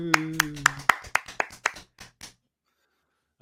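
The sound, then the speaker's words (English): An audience claps together in a steady rhythm to start a performance, about ten sharp claps that gradually soften and fade out, with a sustained voice or tone under the first second, followed by silence. “And we're going to start with your applause.”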